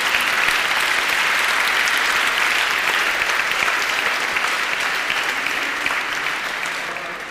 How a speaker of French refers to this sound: Amen. Alléluia. Gloire à Dieu. Applaudissez cette parole.